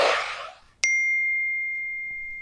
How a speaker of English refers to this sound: there's all those kind of sounds of text message alerts and ringtones. I kept reaching for my phone